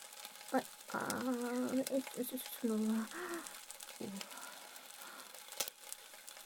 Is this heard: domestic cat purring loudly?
no